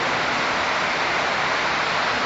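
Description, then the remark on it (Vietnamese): A steady, dense hiss of heavy rain pouring down, loud, with no breaks or distinct drops standing out and no voices. “bây giờ mưa quá tụi gì có nghe được không?”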